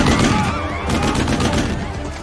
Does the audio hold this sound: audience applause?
no